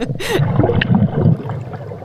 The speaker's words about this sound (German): Und da gab es wunderschöne Blubbergeräusche, also diese Unterwassersounds, wenn man dann da so abtaucht. Wunderschöne Blubbergeräusche.